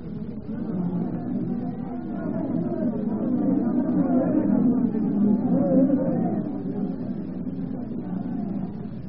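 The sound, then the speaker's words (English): A rioting crowd roars outside a palace, a dense mass of many voices shouting and clamoring together, steady and continuous, swelling slightly in the middle, with no single voice standing out. “The crowd in the end. They are rioting outside the palace.”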